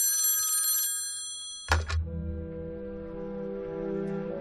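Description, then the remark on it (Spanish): An old police telephone bell rings with the call from Winfred Chapman, housekeeper of Roman Polanski and Sharon Tate's mansion, in the early hours after the night of 9 August 1969. It gives a rapid metallic trill for about a second and a half, then a dull thump cuts it off and a low steady hum lingers. “En las primeras horas del día siguiente, la policía recibió la llamada de Winfred Chapman, el ama de llaves de la mansión del director de cine Roman Polanski y la actriz Sharon Tate.”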